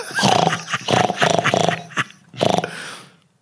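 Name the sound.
person imitating a pig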